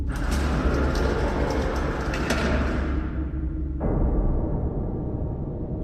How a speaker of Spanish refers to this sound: Al momento de hacerlo, sonó el elevador.